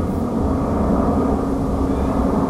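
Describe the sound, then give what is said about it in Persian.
A steady, loud engine drone fills the cabin, a continuous low roar of an airplane carrying migrant passengers returning to Tajikistan, with no breaks or changes in pitch, heard without any voices. “در این هواپیما مسافران مهاجره نیز به تاجیکستان برگشتند که پس از سالهای طولانی غریبی نمیخواهند دیگر بار رنج مهاجرت در کشوری برایشان بیگانه ادامه کند.”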